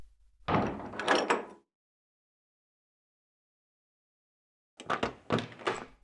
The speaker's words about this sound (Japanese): もう、なんで急にドア閉めちゃうの？